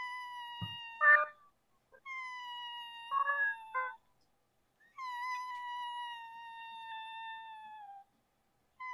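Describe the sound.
A person imitates the meowing of a cat named Quiva with a series of long, high-pitched, wavering meows, sustained and fairly loud, with short gaps and a few rougher throaty bursts in between.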